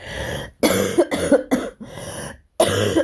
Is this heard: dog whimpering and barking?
no